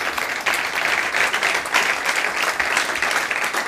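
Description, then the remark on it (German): An audience at the Schmidtchen breaks into sustained applause for Corny Littmann, a dense, steady wash of many hands clapping at fairly even loudness throughout, with no voices standing out above it. “Und an dieser Stelle schon mal einen Applaus an Corny, der meine wahnwitzige Idee ganz großartig fand, dass wir hier mal ein bisschen Politik besprechen.”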